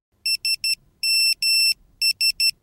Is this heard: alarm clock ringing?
yes